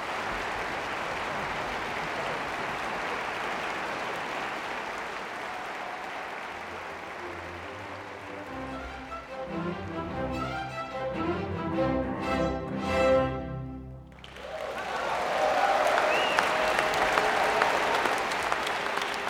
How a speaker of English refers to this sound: Then the strings. And then the brief moment of quiet, anticipation, before the applause as conductor Daniel Hege takes the podium.